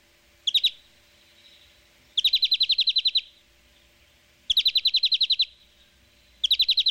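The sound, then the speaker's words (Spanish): A European greenfinch (common greenfinch) sings in bursts of rapid, evenly spaced trilled notes, about ten per phrase, repeated every couple of seconds, clear with no voices. “Pues el verderón, hombre. O sea, el verderón común. Vamos a escuchar el verderón.”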